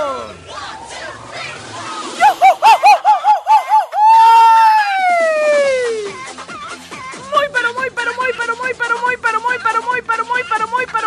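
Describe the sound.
Loud voices yell and wail to wake everyone up on a Friday, with a long drawn-out scream sliding down in pitch, followed by a burst of rapid, rhythmic shouting.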